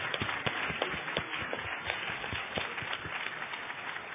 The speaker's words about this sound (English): So let's give everybody a big round of applause.